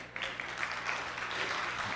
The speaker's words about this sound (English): So yeah, somebody's clapping out there. I can hear it.